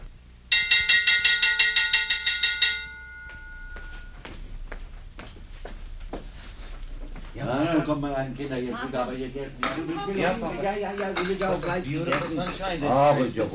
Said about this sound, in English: Back in the kitchen, she hummed as she went about her chores, and as the sun stood high, she stepped out the door and rang the dinner bell.